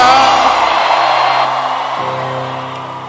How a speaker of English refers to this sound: Let me hear your loudest scream.